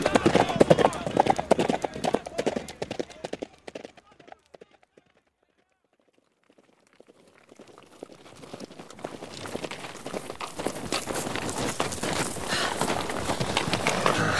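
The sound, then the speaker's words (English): Galloping horses with hooves clip-clopping in a rapid, dense rhythm fade away into near silence, then the pounding hoofbeats build back up and grow loud. “We'll leave our horses here and go to the gorge on foot.”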